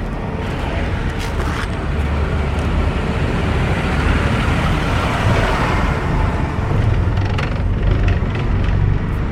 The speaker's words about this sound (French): Il y a un tracteur qui passe, quand même. Oui, oui, oui, y a ben ça, oui.